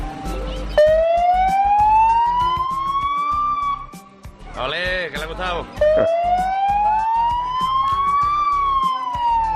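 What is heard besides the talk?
police car siren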